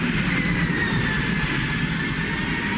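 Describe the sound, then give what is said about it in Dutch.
An unusual van with an electric motor drives past with a steady low rumble and a thin, sustained high-pitched electric whine riding on top, loud and continuous for about three seconds with no voices. “We gaan straks te weten welk busje dit krankzinnige geluid maakt, Nout.”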